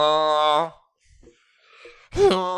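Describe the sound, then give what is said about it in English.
A person vocally imitates a Tauntaun's call with two loud, strained, harmonic wailing bursts, one at the start and one at the end, separated by a quiet breathy pause. “That's a Tauntaun, everybody.”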